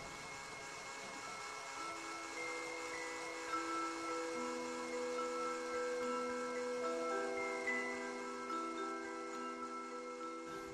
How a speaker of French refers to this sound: Est-ce que je vais pouvoir mixer mon potager ? Oui. Alors le mixeur va faire un peu de bruit.